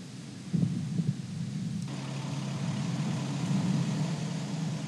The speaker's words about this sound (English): And with that, we see the fires lit, the engines start to roar, and lift off. Scott Tingle, Anton Shkaplerov, and Noroshihi Kinai on their way to the International Space Station.